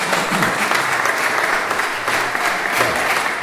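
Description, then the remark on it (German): Steady, dense applause from a church audience, a continuous crackle of many hands clapping at an even loudness throughout, with no voices standing out. “Ich werde ihr von ihrem Applaus berichten.”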